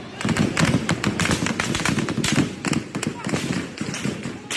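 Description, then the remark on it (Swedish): Rapid, repeated gunshots from the president's own guards crack out in irregular bursts throughout, loud, over a constant background of crowd noise and raised voices. “Skott från presidentens egna vakter.”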